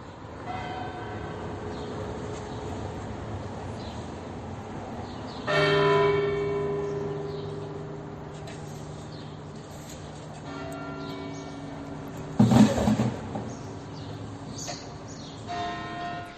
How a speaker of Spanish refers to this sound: La catedral ofrecía el tañir de sus bronces y los corazones también se convertían en campanas sonando la pena honda en el recuerdo de una persona